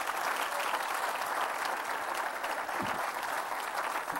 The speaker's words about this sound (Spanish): ¿Le puede dar un aplauso a Cristo?